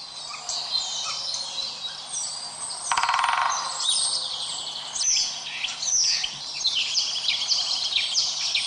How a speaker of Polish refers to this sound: Posłuchajcie proszę ptaków. Tak jak ten bezdomny człowiek godzinami słuchał ptaków.